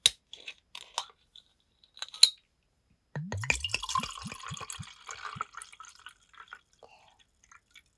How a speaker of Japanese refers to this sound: 早速お酒開けちゃいます。まず大好きなチャミスルから。